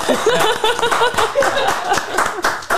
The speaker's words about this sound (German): Wow. Da muss man wirklich mal klatschen.